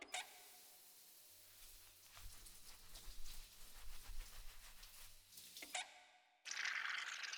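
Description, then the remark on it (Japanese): Wet scrubbing of soapy lather on a man's large back, with repeated rubbing strokes in an uneven rhythm and bubbly, splashy texture, ending in a sudden louder burst of water-like noise. “じゃあ、ゴシゴシしてあげますね。”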